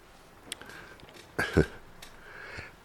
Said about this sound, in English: Excuse me. I still have this cough. I got a cold like 3 weeks ago. I could feel it festering in my throat.